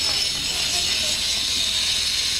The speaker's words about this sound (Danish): Det er nogen, der saver i sten. Det er jo altid meget. Det er markant, og man synes at være meget konkret. Ja, det er meget fysisk.